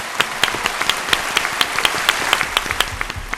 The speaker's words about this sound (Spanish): Pues sí, mira, vamos a darle el aplauso del día, efectivamente. Venga. A ese teleférico de Chile.